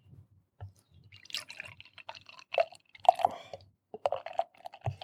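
Thick Triple Dry Hopped Quadruple IPA beer (11.3%) glugs and splashes into a glass, with irregular wet gurgles, drips and bubbly fizzing over several seconds, no one speaking.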